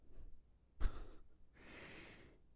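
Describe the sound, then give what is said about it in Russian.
A person imitates the uneven breathing of someone with a breath-recording strap wrapped around the chest: a faint breath, then a sharp, abrupt gasp, followed by a longer, airy exhale. No words are spoken. “Они обматывают эту штуковину вокруг груди, и если человек дышит вот так вот, что-то вроде этого, то, по их мнению, он сумасшедший.”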